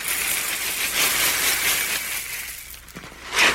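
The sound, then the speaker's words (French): Cornflakes and marshmallow pieces pour into a chocolate, vegetable fat and icing sugar mixture in a bowl with a continuous crisp, rustling rattle that thins out, followed by a brief final clatter. Moderately loud, with no voices. “Versez les cornflakes et les morceaux de chamallow dans le mélange chocolat-végétaline-sucre glace.”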